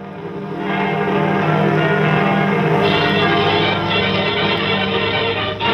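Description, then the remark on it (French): Several church bells of a Paris neighbourhood peal together, rung to announce the entry of French and Allied troops into Paris, in a dense, continuous wash of overlapping tones, loud and sustained throughout with no voices. “Nous entendons les cloches de notre quartier.”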